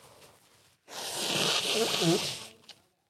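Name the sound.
blowing nose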